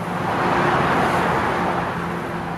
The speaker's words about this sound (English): Sounds like blowtorches, the tall tower crane, the wonderful noise of the bay beneath, and the cars that are passing on the new Bay Bridge right next to it.